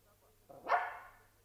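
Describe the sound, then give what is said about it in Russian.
A single bark from a dog shut in a wardrobe rises sharply and trails off into a short whine, clear, with no talking over it. “Кто это впустил в шкаф собаку?”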